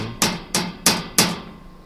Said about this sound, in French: Une carapace osseuse faite de plaques boulonnées, monsieur le professeur. Je n'ai jamais vu ça. Et que monsieur entende quand je frappe avec mon couteau.